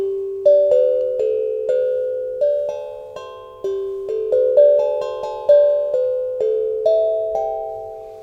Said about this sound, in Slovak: Má to krásny zvuk, mne to pripomína veľmi takú nejakú zvonkohru. Uh-huh. Čo to je? Je to také, vyzerá to ako také malé biele nejaké UFO, alebo niečo podobné, taký oválny tvar. Kovový nástroj, sú rôzne typy podobného rázu.